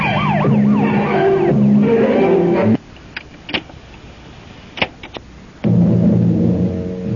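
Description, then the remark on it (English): A police car's siren wails in rising and falling sweeps over a rumbling engine as the car speeds off toward the precinct house, cuts off abruptly, leaving a few faint clicks, then the engine drone returns loudly. “Hit the gas and turn on the squealer.”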